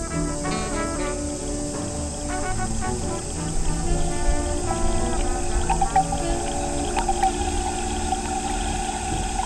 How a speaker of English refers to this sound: Heading into the pond at Wave Farm, Zach Poff's Pond Station.